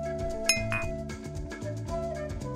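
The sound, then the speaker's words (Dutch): A single bright clink of a glass of The Macallan Rare Cask whisky rings out near the start, its tone lingering briefly over steady background music with a rhythmic low pulse. “Vandaag reflecteert uw stijlpastoor met een glas Rare Cask van The Macallan.”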